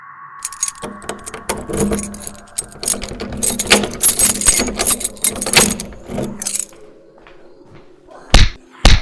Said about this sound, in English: Lock that door! Barbara slams the door and locks it.